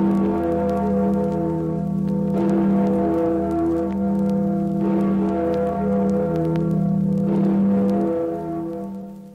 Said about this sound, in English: That was the Freedom Bell, to remind you that you are listening to Radio Free Europe.